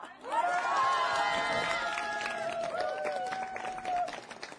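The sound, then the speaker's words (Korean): A crowd bursts into steady applause lasting several seconds during a Korean folk song performance of Seongju-puri, the dense patter of clapping mixed with loud cheering and whooping voices that rise and fall over it. “우리 한번 박수와 성적풀이 한번 해볼까나?”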